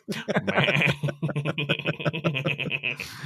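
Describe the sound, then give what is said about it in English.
A goat bleat played from a soundboard: a loud, long, wavering cry with rapid pulsing tremolo, clear, ending abruptly after about three seconds. “Hang on, let me get my goat soundboard going.”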